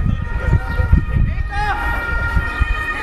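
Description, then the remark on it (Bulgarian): An emergency vehicle's siren, from a police car or ambulance, wails steadily with a rising-and-falling sweep midway, over a dense rumble of crowd noise and chatter from a street protest on the stretch between Sofia University and Orlov Most. “Единствените превозни средства, които можеха да минат в отсечката между Софийски университет и Орлов мост, бяха полицейски коли и линейки.”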